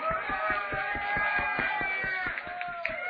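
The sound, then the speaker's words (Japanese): A crowd applauds and cheers for 11丁 at its anniversary event, over a steady, fast rhythmic thumping, the mass of clapping and voices at a loud, constant level throughout. “やば、本当に10周年続けてボツしまくってきて、今日みんなこのバイブスをみんな共有してがっつり一つになってる11丁に大きな拍手を。”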